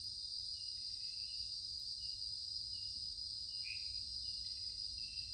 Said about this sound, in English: The cicadas are filling the air with song.